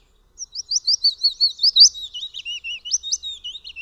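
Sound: willow warbler song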